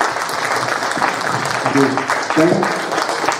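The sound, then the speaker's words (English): A panel audience claps steadily for a drink cup in a dense, continuous burst of applause, with a couple of brief voices rising through the clapping partway through. “Can we get a big hand for our drink cup?”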